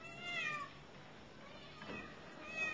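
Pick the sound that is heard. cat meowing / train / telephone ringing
cat meowing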